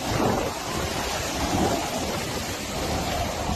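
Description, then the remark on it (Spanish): A dense, steady roar of Hurricane Ian's storm wind, at 305 km/h, mixed with heavy surf and abundant rain as it passes over Florida, loud and unbroken for the whole stretch, with no voices. “Son vientos de 305 kilómetros por hora con descargas de lluvia abundantes.”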